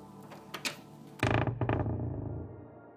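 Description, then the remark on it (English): A door creaks loudly as a person swings it open, a long groaning squeal after a few faint clicks, sustained, with no voices. “I leave it another couple of beats before I swing the door open, just to be safe.”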